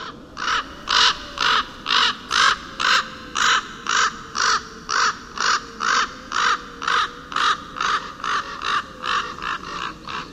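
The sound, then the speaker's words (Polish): A hooded crow, grey with a black head, wings and tail, caws in a long, steady series of about twenty harsh, evenly spaced calls, loud, with no speech. “No i właśnie, i dochodzimy do czwartego gatunku, który kracze, ale nie jest czarny, to jest właśnie wrona.”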